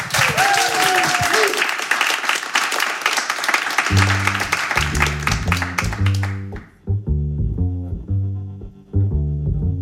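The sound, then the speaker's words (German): A crowd applauds loudly and steadily to welcome a band, then the clapping fades out as the band starts playing a steady, rhythmic tune with deep bass notes. “So, dann wünsche ich Ihnen jetzt viel Vergnügen, einen großartigen Applaus für”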